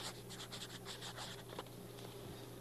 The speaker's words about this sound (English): Now, could you sign for the deliveries, please? Right on the dotted line here, if you'd sign right there. Just a minute ago, I had some ink on the end of this, and we were using that as a pen. Well, I have a pencil for you, and there you go.